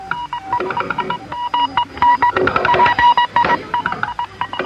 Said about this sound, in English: Because Morse code could penetrate the static better than the human voice, most secret agents from both sides used Morse code to communicate. It was also less conspicuous to be tapping away than shouting into a microphone when you might be overheard.